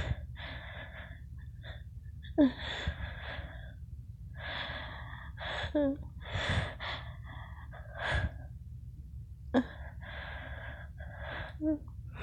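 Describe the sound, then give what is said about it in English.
Repeated sniffling and sharp nasal inhales from a person who is a little sick, coming in short breathy bursts every second or two with a few quick snorts mixed in, against a low steady hum and no talking. “Sorry for the sniffles and everything, like I said, I'm a little sick.”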